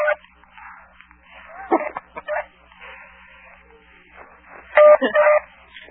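Short electronic telephone beeps repeat amid scattered yelps and bursts of noise, with two louder steady-pitched tones standing out near the end.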